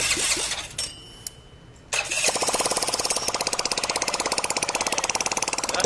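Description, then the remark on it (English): A small engine that Scrap Daddy is trying to get going sputters and cranks, goes briefly quieter, then catches and runs with a loud, steady, rapid putter. No one speaks. “Back with the family, Scrap Daddy is trying desperately to get the engine going.”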